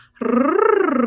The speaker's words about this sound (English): Or a tongue trill.